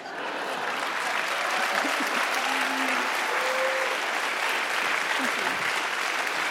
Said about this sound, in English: A palma é muito fraquinha para Jesus. That's a very weak clap for Jesus.